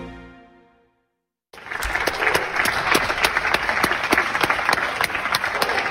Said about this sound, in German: Dieses Klatschen, das ist ja ganz süß. Ich finde das ganz lieb von den Leuten. Es hat aber auch schon wieder abgenommen.